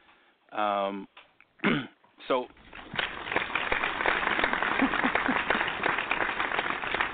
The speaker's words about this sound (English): No, I had to do it. You know what? I'm gonna find out where you got those claps from, and I'm. We're gonna find out after a while.